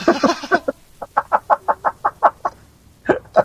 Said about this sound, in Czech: Takže jako, já jim tady dám malej prostor, rozumíš, jako, takže on ten kohout tady hned chytne, jako, tady nebude muset tak dlouho honit. Budou mít menší prostor, tak to jí doběhne hned.